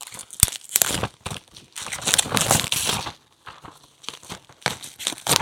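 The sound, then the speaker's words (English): Crinkly plastic packaging is torn and unwrapped around Hot Wheels toy cars, with bursts of sharp crackling and rustling, a sustained noisy stretch in the middle, a brief pause, then more crinkles. “Oh, they are Hot Wheels. Excellent. They're just packaged kind of strange.”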